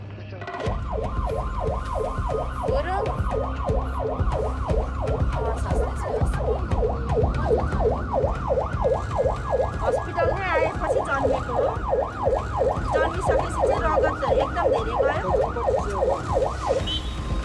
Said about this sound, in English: Less than 30 minutes later, the helicopter touches down in Kathmandu. An ambulance is waiting to take Muna to a hospital.